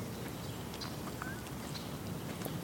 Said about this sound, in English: That's a cardinal, or I mean a chipmunk over there doing that chipping.